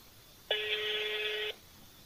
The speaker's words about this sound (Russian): Трубка мигает. Вызов идет, звонки не идут. Ну, не берут. Угу. Не берут. Он на все звонки перестал отвечать, ага.